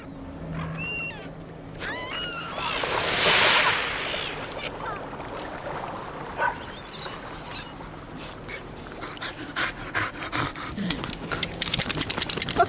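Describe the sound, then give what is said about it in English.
A dog moves about, with wet rustling, a brief splashy swish and quick sniffing bursts growing busier toward the end; no one speaks. “Bit of action. Go away! Get off! Stinky dog!”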